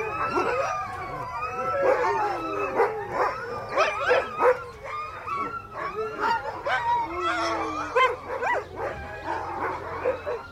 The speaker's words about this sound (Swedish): Stormen ven utanför och några hungriga hundar ylade i natten.